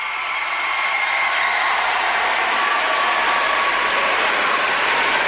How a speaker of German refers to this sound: Ja, mit diesen Applaus, mit herzlichen Grüßen und einem Winken des Papstes, der sich jetzt von Fenster des Innenhofes in Castel Gandolfo von den Gläubigen verabschiedet, freuen auch wir uns jetzt auf diese kommende Woche.